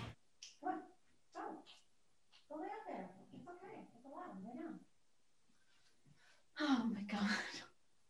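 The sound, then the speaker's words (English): A dog gives a series of short barks and yips in separate bursts, ending with one louder, harsher bark. “No, your dog isn't cooperating.”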